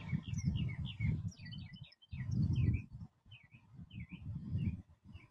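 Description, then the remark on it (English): Birds chirping outdoors, a steady stream of quick, high tweets and trills from several birds over a low rumbling background, with no one speaking. “Look at the birds.”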